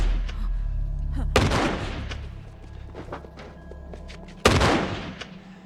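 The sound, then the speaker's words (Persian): Two sharp, loud gunshots are fired into the air as a warning, about three seconds apart, each followed by a brief echoing tail, over a steady low rumble in the background. “تیر هوای شلیک کردم، فقط میخواستم بره.”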